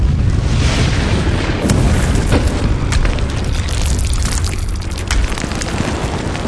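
A deep, continuous rumble of thunder and earthquake, loud and steady throughout, with crackling bursts and sharp pops scattered over the heavy low roar.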